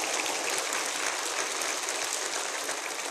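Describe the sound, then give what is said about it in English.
A crowd applauds steadily, a dense, even wash of many hands clapping at once, holding at a constant level for the whole few seconds with no voices heard. “I don't even get applause when I preach a good sermon.”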